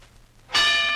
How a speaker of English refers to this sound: There's the bell. His first fight is on.